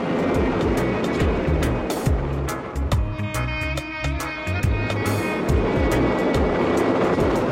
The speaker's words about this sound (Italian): Non solo all'elicottero giravano le pale